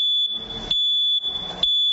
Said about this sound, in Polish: Dlatego też rekomendujemy zakup czujników, takich tlenku węgla. Ten czujnik jakby monitoruje to powietrze, które jest w danym pomieszczeniu. Jeżeli wystąpi jakieś zagrożenie, daje głośny, akustyczny sygnał.